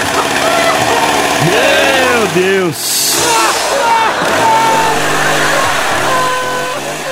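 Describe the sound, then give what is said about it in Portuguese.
A child's voice imitates a chainsaw, buzzing and revving with swooping, wavering pitch, broken midway by a loud hissing burst, while other voices talk over it. “A motosserra do demônio, deixa o seu irmão em paz.”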